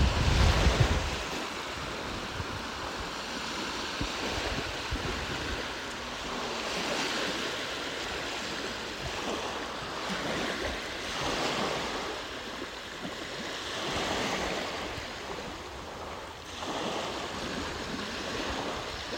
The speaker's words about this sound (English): So we do have a lot of waves coming in.